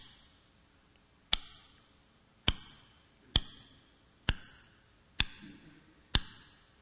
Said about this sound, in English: We have quartz locked time here in the material world. Like this clock is just ticking.